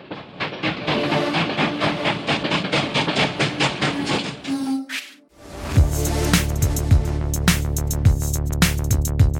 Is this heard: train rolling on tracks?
yes